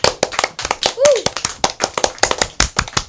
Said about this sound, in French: Merci messieurs, on peut vous applaudir très fort, je pense. Merci.